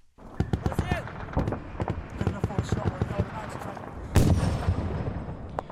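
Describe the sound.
Rapid, scattered gunshots from Afghan soldiers fighting off a Taliban attack crack and echo across high mountain passes on the frontier between Afghanistan and Pakistan, with one heavier blast rolling out near the end and faint voices in the background.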